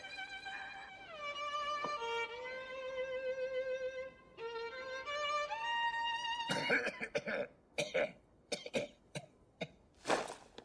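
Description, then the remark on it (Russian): A sustained, wavering musical tone plays for several seconds, then gives way to a harsh fit of coughing from a neighbour with the flu behind a wall, with a run of rough bursts followed by a few separate hacks. “Господи, это сосед за стеной кашляет, грипп.”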